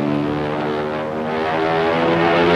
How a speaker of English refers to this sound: The pilot struggles to keep his head up, then collapses against the controls. Easy. The plane goes into a steep dive.